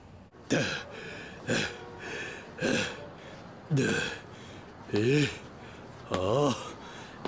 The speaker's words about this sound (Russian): Чё так тяжело дышишь, как будто весь день пахал?